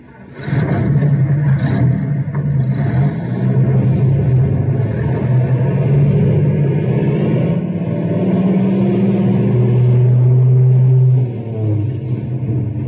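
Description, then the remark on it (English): A rescue truck engine revs and rumbles steadily as it drives, loud, with a heavy low drone throughout that eases off near the end. “Stubby, you fellas drive the other rescue truck. Emmy and I'll take this one.”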